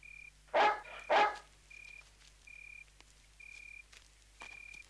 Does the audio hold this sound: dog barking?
yes